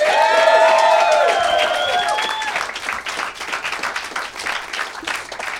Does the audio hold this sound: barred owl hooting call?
no